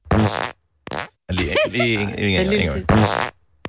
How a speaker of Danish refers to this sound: It's fart. Fart. Jeg siger art. Jeg er fart. Fantastisk. Nå, men vi vandt alle sammen, for vi fik lyden til sidst. Ja, det gør vi dejligt. Kan vi lige få lyden en gang mere?